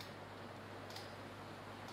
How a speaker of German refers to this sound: Die Deckenventilatoren ticken.